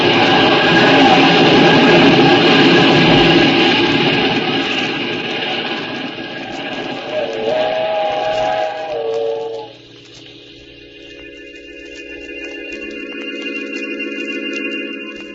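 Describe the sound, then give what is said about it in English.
A steam train roars past, a loud, hissing rumble of rushing noise that gives way to wailing whistle tones and a thinner, steady hiss as it moves off. “When the train had passed, I saw what was left of his body on the tracks.”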